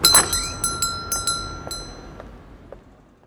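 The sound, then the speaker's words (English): A toy shop door opens with a bright bell jingle: a sharp ring at first, then several lighter tinkling strikes that fade out over a few seconds, with no voices. “Open the door, please,”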